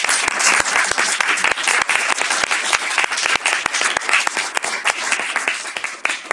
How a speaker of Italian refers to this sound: prima di aprire il consiglio, darei il benvenuto al Consiglio Comunale dei Ragazzi. Non sono al 100%, ma una folta rappresentanza, no? Perciò farei un bel applauso a...